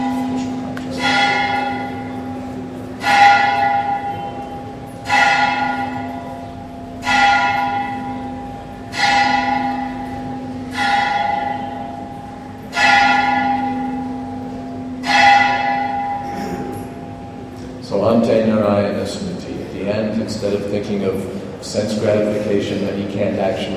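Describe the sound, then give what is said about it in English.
A large bell tolls slowly and steadily, about seven evenly spaced strikes each ringing out with a long resonant hum, followed by murmuring voices and room noise as the ringing ends. “That was the bell.”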